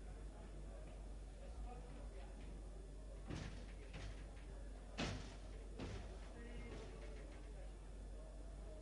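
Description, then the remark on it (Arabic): A door is pushed shut with a few solid knocks and thuds, over the low murmur of a room where people talk faintly in the background. “شيخنا إذا جسارة ما يصير هاي الباب سدوها ولو جسارة بالله.”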